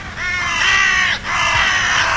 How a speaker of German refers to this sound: Können ihr vielleicht auch die kreienden, fliegenden Nachbarn ganz in Schwarz? Manchmal trifft man sie auch auf den Küdersäck an. Raben, seien wir ehrlich, ihr Kreien ist alles andere als jetzt ein lieblicher Vogelgesang.